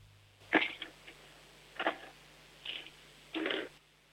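A 7-year-old girl in Upper Austria rolls pens across a tabletop in four separate short bursts of rolling and clattering, moderately loud, with quiet pauses between them and a faint steady hum underneath.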